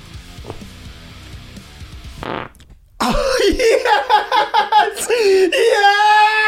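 A loud, drawn-out fart with a squeaky, wavering pitch, sputtering in quick pulses before ending in a long sustained tone, following a few seconds of noisy background chatter.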